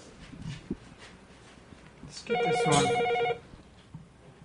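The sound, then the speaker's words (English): A telephone rings once with an incoming call in a single sustained burst of bright, warbling electronic tones, standing out over a quiet background with faint low rumbles. “Oh, wait, is she picking up? Never mind. Hello? Yes, I have a call.”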